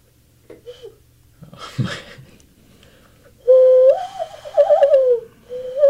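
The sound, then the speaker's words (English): A person whistles an imitation of a bird call, a warbling bird-like trill early on followed by a longer, louder wavering whistle with sliding pitch, with faint murmuring around it. “So I'm gonna need you to make a bird sound”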